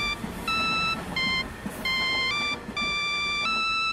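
A mobile phone ringtone plays a simple electronic melody, bright synthetic notes in short phrases that shift pitch, fairly loud and close, over faint background noise with no one talking.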